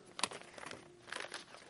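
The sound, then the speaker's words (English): Soft paper rustling and crinkling in short irregular bursts as a paper certificate of authenticity is pulled from a cloth bag, a quick crisp crackle near the start and another flurry later, with no voices. “This comes in a cloth bag. There's a paper in here.”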